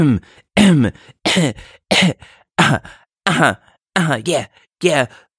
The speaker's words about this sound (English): As he goes, closes his eyes, coughs, and then all of a sudden his cough sort of starts to turn into some type of strange rhythm.